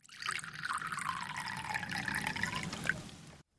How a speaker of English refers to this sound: The waitress generously filled up the glass to the brim.